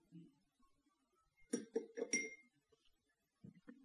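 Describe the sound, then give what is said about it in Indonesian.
A pencil dropped into a glass of water, clinking against the glass in a quick cluster of four or five bright taps, followed by a soft knock after a short pause. “Masukkan batang pensil ke dalam gelas yang berisi air, yaitu gelas B.”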